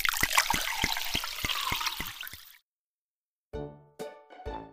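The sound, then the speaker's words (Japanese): Hot water is poured steadily into a glass for a couple of seconds, a splashing trickle that stops abruptly, followed by a pause and a few short tonal sounds. “いやもうお湯で酔えるっていいね。”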